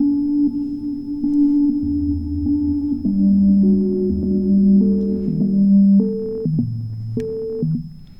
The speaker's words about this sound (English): Well, that's our little reverb.